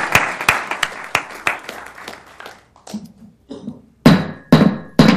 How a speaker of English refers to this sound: Thank you, Commissioner. Congratulations and your team. You can clap on this one.